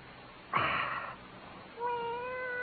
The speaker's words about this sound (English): Oh. Cat?